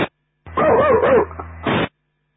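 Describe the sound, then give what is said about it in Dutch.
A dog yelps and whines in a wavering, high-pitched cry, followed by a short bark, fairly loud with a brief pause before the final burst, as the dogs are being taken out. “met de honden. De honden uitbrengen.”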